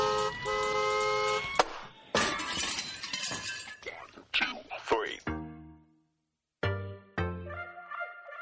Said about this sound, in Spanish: Muchos ya sabéis que si suena la bocina empieza el recuento, es la forma habitual de hacerlo. Ha sonado, así que ya estamos en pleno recuento aquí